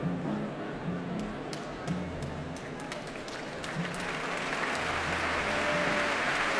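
Steady audience applause at a BBC Philharmonic concert as guest leader Zoe Bayers comes on stage, a dense patter of many hands clapping that swells slightly toward the end, with a low murmur of crowd noise underneath.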